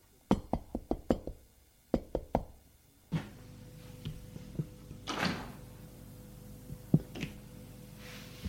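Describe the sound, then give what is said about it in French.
A breathless woman knocks on a wooden apartment door on the top floor of a small, shabby two-storey building: a quick series of about five sharp knocks, a short pause, then two more raps, followed by the door opening with a low creak and soft room noise. “Apolline, essoufflée, frappe à la porte.”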